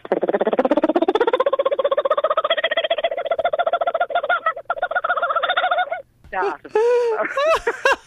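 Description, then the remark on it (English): A person imitates a kookaburra call: a loud, rapid, rising chuckle of voiced pulses for about six seconds, then a brief pause and a few shorter whooping hoots. “I give you a little bit of a kookaburra.”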